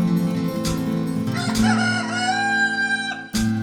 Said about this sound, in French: Au clair appel du coq chantant sur son perchoir, les faucheurs se sont mis à l'œuvre